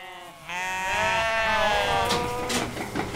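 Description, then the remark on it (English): A sheep bleats loudly in a long, wavering cry, with other sheep calling faintly and a steady farmyard murmur underneath, on Golden Valley Farm, a sheep dairy an hour north of Fresno in California's Central Valley, where 500 sheep are being milked. “On Golden Valley Farm, an hour north of Fresno, Mario Dackert's employees are milking 500 sheep.”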